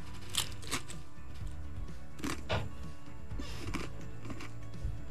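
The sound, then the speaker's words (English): Someone chewing matzah with salt on it, with crisp, brittle crunches in irregular bursts over several seconds, fairly loud against a low steady background hum, and no one talking. “Those are actual chewing sound effects.”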